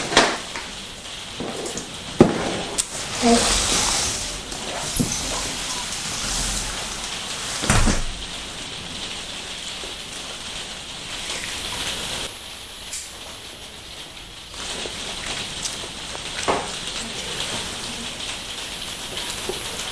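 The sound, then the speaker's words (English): Steady rain patters and hisses across a surface, with a few louder clatters and bumps now and then; no voices, just the continuous wash of rainfall. “So I'm just going to go next door and just see if the rain is too noisy.”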